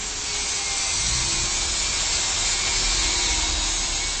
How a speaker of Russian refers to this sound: Центр Москвы. Идет строительство здания нового банка. Интересуемся, как относятся к звукам стройки местные жители.